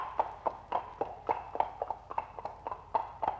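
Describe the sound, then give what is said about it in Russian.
A horse's hooves clip-clop at a steady walking pace, a dozen or so hollow knocks in an even rhythm, clear, with no one speaking. “Ну, мой конь, поехали.”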